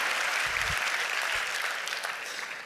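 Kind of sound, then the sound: crowd, audience round of applause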